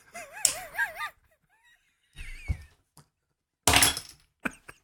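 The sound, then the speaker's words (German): A chair slides with a squeaky, wavering scrape, followed by several dull thumps and knocks in short irregular bursts, with quiet pauses in between and no talking. “Bin mit dem Stuhl verrutscht.”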